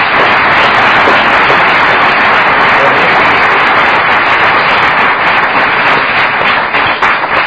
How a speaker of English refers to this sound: and as a token of our esteem and appreciation. Let's give him another big hand.